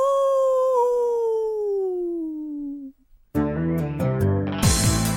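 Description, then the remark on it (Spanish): A long, eerie werewolf howl slowly sliding downward in pitch for about three seconds, followed by a brief pause and then loud dramatic music swelling in. “el hombre lobo. ¡Aú!”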